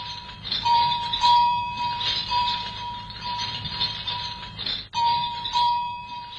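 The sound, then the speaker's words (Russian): A camel bell clanks and jingles continuously, its bright metallic ringing repeating in an uneven rhythm over a low, steady rumble, prominent throughout. “А это, пожалуй, самый древний звон на Земле. Колокольчик верблюда.”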